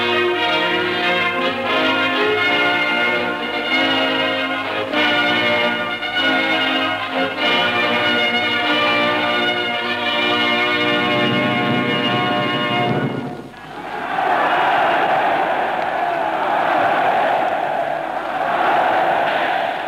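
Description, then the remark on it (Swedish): Ringing bell tones sound steadily for about thirteen seconds, then give way abruptly to the loud, sustained roar of a hundred-thousand-strong crowd cheering in Berlin's Olympic stadium at the 1936 Olympics, greeting Adolf Hitler on his arrival before the opening; a radio report recording. “Det hundratusenstämmiga jubelrop ni hör, det dånar i Berlins stadion mot fyren Adolf Hitler som nyss har kommit.”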